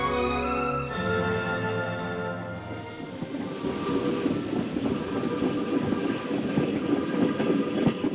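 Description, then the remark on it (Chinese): A train rolls steadily along the rails, carrying President-elect Lincoln from Illinois to Washington in 1861, a loud rumble with busy rhythmic clatter from the wheels, following a brief sustained tonal drone at the start. No one speaks. “当选总统林肯离开家乡伊利诺伊，坐火车前往华盛顿走马上任。”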